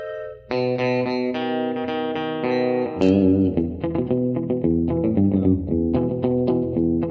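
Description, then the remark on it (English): After a brief moment of quiet, country band music kicks in with sustained, ringing guitar chords, then shifts into a lively, steady picked rhythm. No one is singing or talking. “But let's get things started right off the bat with some music from ….”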